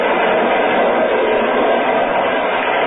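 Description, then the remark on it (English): A train rushes steadily along open track at 60 miles an hour in the dead of night, a dense, continuous rumbling roar with a faint rhythmic clatter of wheels, loud throughout with no voices. “We're running at 60 miles an hour on open track in the dead of night.”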